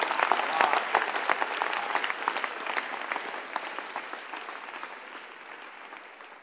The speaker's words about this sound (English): Are you clapping, children? Even the children are clapping.